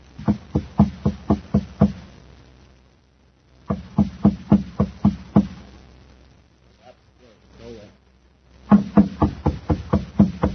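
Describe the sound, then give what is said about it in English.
Loud, rapid knocking as a thin, stoop-shouldered man knocks at a door at the top of a stairway beside a shabby machine shop in Kepler City on Mars, in three insistent bursts of about seven raps each, separated by pauses, with a faint muffled voice in the gap before the last round. “He knocks at the door.”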